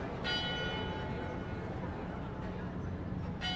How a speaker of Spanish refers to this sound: Ah, pues a propósito, uno de mis paisajes sonoros favoritos es el de las campanas de la iglesia de San Francisco en Bogotá.